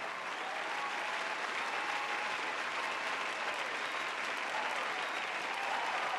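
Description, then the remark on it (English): Loud, sustained applause from a large theater audience after a saxophone performance fills the whole stretch, a dense wash of many hands clapping at once that swells and stays full and steady without letting up. “The applause swelled, went on and on and on.”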